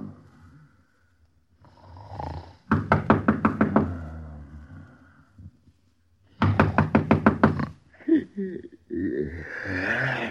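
Two bursts of rapid, firm knocking on a door at night, each a quick run of about six raps, separated by a pause with faint rustling and a low hum in the background.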